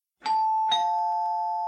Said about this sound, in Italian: Mentre riflettevo, il campanello trillò.